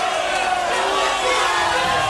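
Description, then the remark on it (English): An audience cheers and shouts in a loud, steady roar that holds for about two seconds without letting up, a dense wash of many voices whooping together, cheering for Walt Disney and Disney World. “Let's hear it for Walt Disney and Disney World.”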